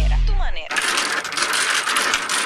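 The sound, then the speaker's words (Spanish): Domino tiles clack and rattle together in a dense, continuous shuffle of many sharp hard clicks lasting about two seconds, the sound of a game of dominoes, common in Cuba. A brief tonal sweeping sound comes just before it. “Ese sonido no necesita explicación. Es tan común en una ciudad como un pregón y tan común en el campo como el trueno y el canto de un gallo.”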